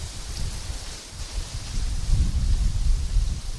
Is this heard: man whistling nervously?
no